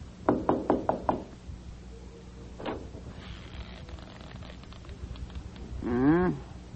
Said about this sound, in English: Well, go ahead. Knock.